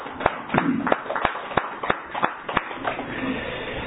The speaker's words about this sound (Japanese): 今日は教師金光様が満85歳を迎えられましたので、盛大な拍手でお祝いをさせていただきます。